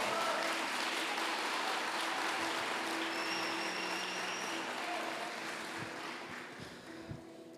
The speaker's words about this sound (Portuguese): Se aplaudir, aplaude direito. Se é para aplaudir, aplaude direito.